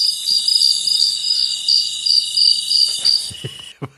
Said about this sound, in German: Bahamas, was ist das im Hintergrund? Sehr laute Grillen. Die sind auch gerade in den Bahamas.